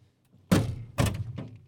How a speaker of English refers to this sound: But until then, shut these doors.